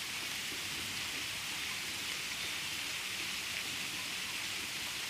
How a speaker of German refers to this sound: Und jetzt regnet sich das hier so langsam ein.